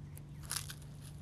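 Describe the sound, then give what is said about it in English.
An eggshell is crumpled for a tomato planting hole, giving a few brittle, crackling crunches in short irregular bursts, loudest in the middle, fairly faint over a steady low hum. “And we're going to take an eggshell, crumple it up.”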